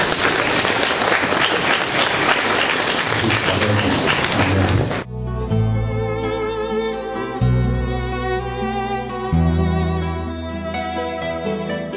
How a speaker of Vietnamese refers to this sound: Hôm nay một số anh chị em mình mặc áo, chúng ta cùng một tràng pháo tay để chúc mừng.